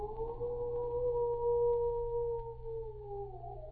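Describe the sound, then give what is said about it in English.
Huskies sitting in the snow howl in a long, steady, mournful wail that holds its pitch for several seconds before sliding downward at the end, set against a low, constant rumble with no talking. “With eyes like a circle of fiery coals, the huskies sit round in the snow and howl to the moon in the silent sky, their dismal wail of woe.”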